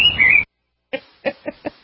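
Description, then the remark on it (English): Birds tweet: a brief warbling trill, a short pause, then four quick chirps in an uneven run, fairly loud with no one talking. “Darn those birds once again in the studio.”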